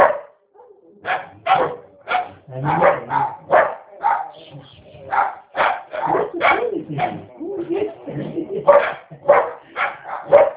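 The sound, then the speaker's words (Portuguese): A dog barks in a quick, steady series of loud yaps, nearly nonstop for about ten seconds, while a person talks briefly over the barking. “Delícia, esse cachorro, mano.”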